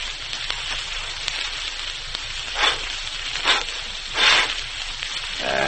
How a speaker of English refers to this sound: But now I'd like to go back a number of years to the wastelands of western Colorado, where a camper is trying to get a campfire started.